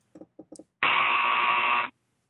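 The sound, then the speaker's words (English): A few quick, soft thumps lead into a loud, harsh buzzer that blares steadily for about a second before cutting off, with nothing else around it. “Are you listening to the Buzzer Show?”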